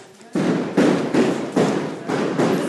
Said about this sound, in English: Oh my God, it's inside the house. They're shooting in the house. So this is tear gas canisters being fired at very close range, so close that they were ripping holes into the walls of the house.